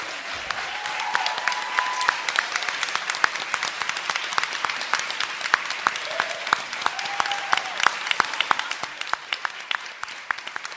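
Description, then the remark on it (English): Sustained audience applause for the speakers of a panel on communities and intersections, race, sexism and music, a dense steady patter of many hands clapping that carries on for the full stretch before easing slightly at the end, with a few faint voices or cheers mixed in. “So I just want everyone to give a Round of applause”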